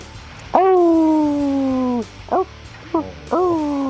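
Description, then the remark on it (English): A man imitates a dog's howl: one long, sustained wavering howl, then a few short yelping bursts before another drawn-out howl, fairly loud over a low background hum. “Do your howl, man.”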